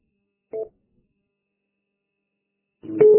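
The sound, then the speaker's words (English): A short electronic telephone beep from a phone call the radio user is on, then after a pause a louder, longer tone that cuts in at the end. Both are thin and band-limited, coming over a mobile radio unit's transmission. “Yeah, I kept hearing that somewhere's beep, but oh, now we know what it is.”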